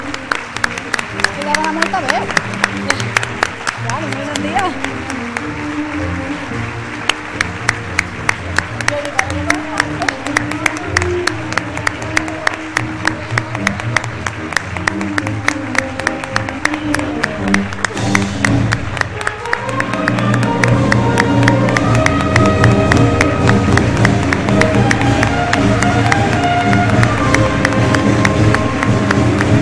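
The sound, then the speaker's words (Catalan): Loud, sustained applause from a large crowd at a festival presentation, greeting the announced representatives of the Christian side's groups, fills the half minute, mixed with steady rhythmic beating and a busy festive din that swells even louder toward the end. “Un fort aplaudiment.”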